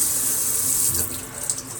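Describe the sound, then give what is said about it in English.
Water streams steadily from a tap, a continuous bright hiss with a slight splashing texture that eases a little toward the end. No one speaks. “Turn that water off.”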